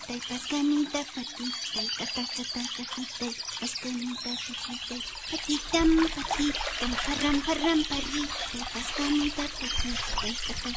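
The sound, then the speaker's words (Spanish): Water trickles and splashes steadily from a spring, a continuous bubbling wash that lasts throughout, with a low voice-like murmur running underneath. “Una mala mañana, mientras la niña recogía agua del manantial”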